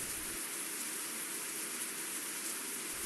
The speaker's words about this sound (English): I feel the soft patter of water on my head. I look up at the small holes that project the only light I can see. Water is coming through, raining on me.